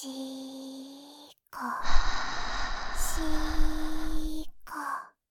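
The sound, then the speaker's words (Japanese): Breathing right at the right ear: a soft voiced sigh, a brief pause, then a long airy exhale of about three seconds and a short final breath. Steady, moderately loud, with no talking. “やっぱり耳元で吐息の音聞きながらシコシコしてもエッチな気分にはならないかな。”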